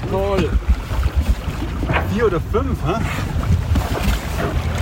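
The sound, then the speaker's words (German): Steady wind rush and sloshing water surround a sailboat out at sea as a pod of dolphins swims right beside the boat, a constant roar under brief snatches of people talking. “Eine Delfinschule direkt neben unserem Boot.”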